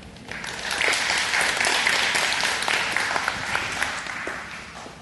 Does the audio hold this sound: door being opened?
no